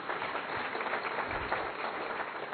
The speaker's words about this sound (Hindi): उनके लिए भी जोरदार ताली बजाएंगे।